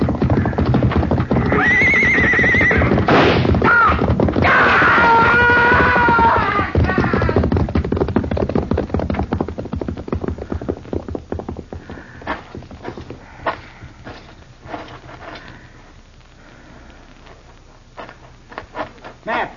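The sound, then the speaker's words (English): A horse whinnies loudly and shrilly in the opening seconds as a man tries to ride it out of a corral, followed by a fast clatter of hooves that continues and gradually grows fainter as the animal moves away. “Look, he's trying to ride the horse out.”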